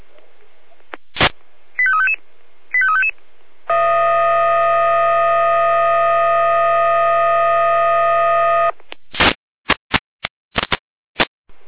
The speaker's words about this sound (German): Hier Leitstelle Jena mit Einsatzalarm.